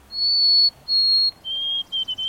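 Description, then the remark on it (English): A white-throated sparrow sings clear, pure whistled notes: two long steady tones, then a slightly lower tone and a quick run of short, wavering notes, sweet and thin with no talking. “In the east, you're more likely to hear the sweet, wavering song of the white-throated sparrow.”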